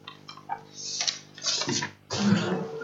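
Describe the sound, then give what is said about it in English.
Water is poured into a basin in a few uneven splashing bursts, moderately loud, with short pauses between pours and no one talking. “Before you say, I know there's enough water in there, but...”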